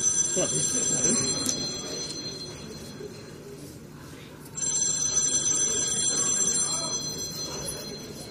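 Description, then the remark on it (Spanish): A telephone rings continuously with a bright, trilling electronic tone, loud, over a murmur of background voices and other noise. “¡Pero cógelo yo, paponata!”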